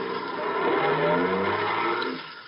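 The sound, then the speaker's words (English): A taxi's engine revs and rises in pitch as the car pulls away, a steady mid-loud motor drone that eases off slightly at the end. No voices. “Taxi. Hey, taxi.”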